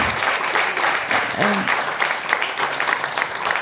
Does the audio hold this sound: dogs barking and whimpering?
no